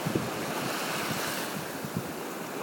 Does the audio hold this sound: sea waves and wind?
yes